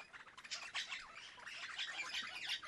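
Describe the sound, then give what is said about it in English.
Crimson rosellas by a beach call: a busy run of harsh, squawking parrot notes and chatter, loud and fairly continuous over a few seconds, with no one talking. “Crimson rosellas are found in southeastern Australia.”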